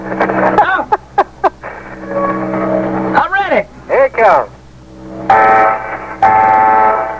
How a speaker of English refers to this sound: Give me some siren! Turn the siren on. Hit that siren! Hit that air horn.